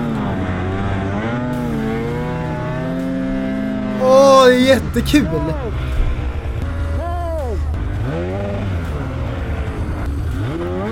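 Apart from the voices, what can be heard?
snowmobile engine revving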